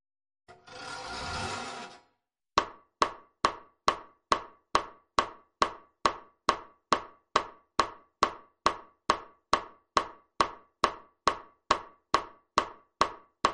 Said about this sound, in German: Ich habe die Spechtmaschine von Herrn Wach nachgebaut. Hör mal.